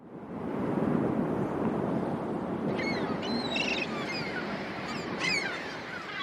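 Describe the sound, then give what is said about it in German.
A strong wind roars over crashing sea surf below steep cliffs, whipping the waves into spray, in a steady, dense wash, while seabirds living by the thousands in the cliffs cry out repeatedly above it in short, wavering calls from about midway on. “Die Luft war erfüllt von Heulen und Rauschen und den Schreien der Vögel, die zu Tausenden in den Steilklippen lebten.”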